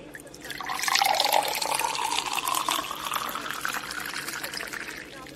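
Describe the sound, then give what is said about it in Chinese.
Red wine from a bottle of 1982 Lafite is poured steadily into a glass for about five seconds, a gurgling stream whose pitch rises slightly as the glass fills. No one speaks. “这是一瓶82年的拉菲，是不错的珍品哦。想要和我一起喝吗？”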